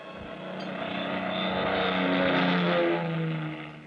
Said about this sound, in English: It was 11:30 p.m. when the big plane slowly glided down out of the clear starlit sky.